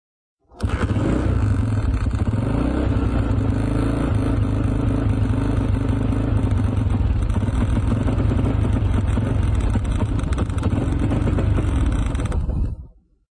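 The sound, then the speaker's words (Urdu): A motorcycle is kick-started, driving its generator so the spark plug sparks, and the engine runs steadily with a loud, continuous mechanical rumble and rattle, starting abruptly and cutting off after about twelve seconds, with no speech. “لیکن اس سے پہلے میں یہ بتانا چاہوں گا کہ جب میں اس موٹر سائیکل کو کک کروں گا, اس کے کک کو یوں دھکا دوں گا, تو اس کے نتیجے میں ایک جنریٹر کام کرنے لگے گا. اس جنریٹر سے الیکٹرک فیلڈ پیدا ہوگا.”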